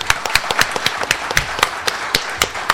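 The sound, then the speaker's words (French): An audience applauds with a steady patter of sharp, overlapping claps, moderately loud and fairly even throughout, with no voices on top. “Voilà, vous pouvez l'applaudir d'ailleurs.”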